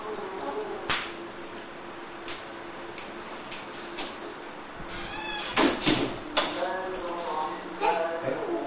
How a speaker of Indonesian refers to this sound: Pintunya kamu buka sendiri. Pintu itu siapa yang buka?